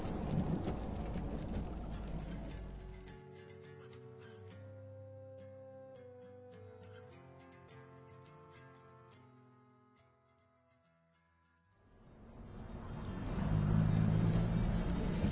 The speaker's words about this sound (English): You can keep closer to his tail. He's not going to notice us in this rain.